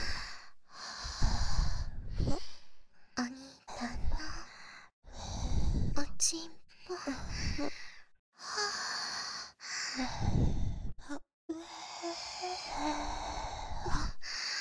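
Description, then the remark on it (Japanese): Soft, breathy exhales and sighs come in uneven bursts with short silent gaps, mixed with wet licking and mouth sounds, all fairly loud and intimate with no clear words. “ほら、吐息だけじゃなくて、なめなめもしちゃいました。”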